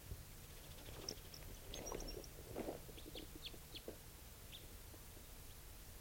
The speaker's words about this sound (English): Bird just flew a long distance, sort of giving a soft song in flight.